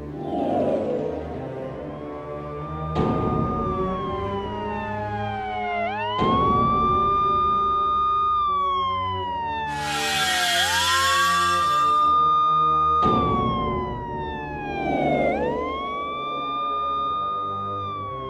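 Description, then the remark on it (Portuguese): An ambulance siren wails loudly, its pitch sweeping up and down in slow, repeating cycles, with a brief burst of hissing noise partway through and engine rumble underneath. “Chamem a ambulância rápido.”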